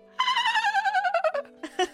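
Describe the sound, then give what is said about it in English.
A human voice imitates a dolphin with a loud, high-pitched warbling squeal, rapidly pulsing as its pitch slowly falls, then breaking into a few short squeaky chirps. No words are spoken. “her only strong point that she could offer me was this dolphin noise.”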